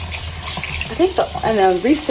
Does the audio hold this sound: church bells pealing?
no